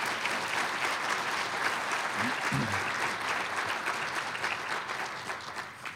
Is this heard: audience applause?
yes